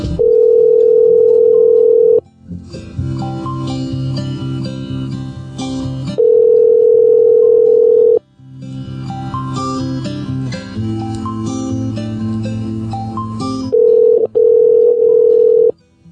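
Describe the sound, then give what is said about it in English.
A steady telephone ringing tone sounds in loud two-second bursts, repeating three times, as a call is placed to a Best Buy store in Plano, with a stretch of busy instrumental music filling each gap between the rings. No one speaks. “Ringing phones.”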